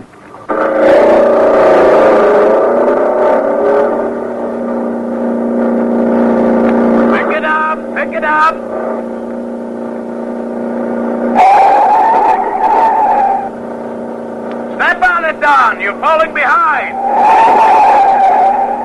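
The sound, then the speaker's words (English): Revving car engines roar loudly and continuously, with bursts of high squealing tire skids breaking through several times toward the middle and end, intense throughout. “the night before, you're sitting tense and nervous behind the wheel of your own car, your motor racing”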